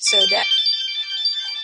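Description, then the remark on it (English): A phone ringtone goes off, a bright electronic melody of sustained high tones ringing steadily for under two seconds, opening with a brief burst of voice. “My phone just went on.”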